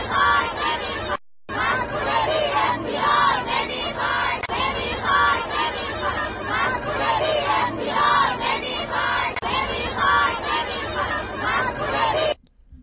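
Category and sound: crowd, protesting nurses chanting slogans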